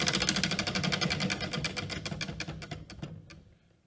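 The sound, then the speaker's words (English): A spinner wheel spun in a game to find out a player's food ticks rapidly at first, its sharp clicks gradually slowing and spreading apart as it winds down, then stopping after a few seconds. No one speaks over it. “But you need to spin again to see what your food is.”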